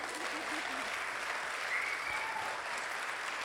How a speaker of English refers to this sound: So I'm not going to take up any more time. Welcome them with a good round of applause.